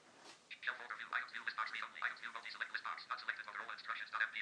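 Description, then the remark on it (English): Tinny, narrow-band recorded voice giving instructions from a very old mobile phone's small speaker, continuous and slightly harsh, with no other sounds around it. “That's some instructions from a very old mobile phone, and I might be booing a bit of that because it's quite funny.”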